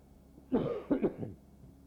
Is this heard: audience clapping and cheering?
no